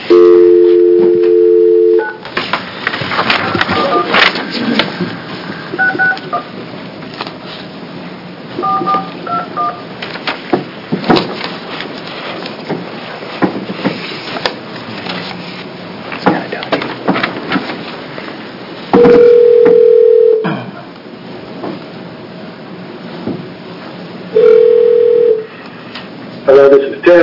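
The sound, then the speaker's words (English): A telephone dial tone hums briefly, then a quick run of keypad beeps dials a number, followed by a couple of steady ringback tones, all over faint room noise and murmuring; a phone call placed from a state senate committee hearing in Salem. “We're going to get Ted Fitzgerald on the phone.”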